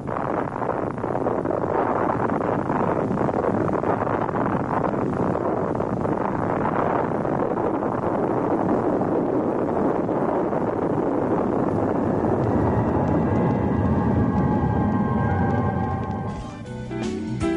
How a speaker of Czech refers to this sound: Ovo je autentičan snimak eksplozije atomske bombe.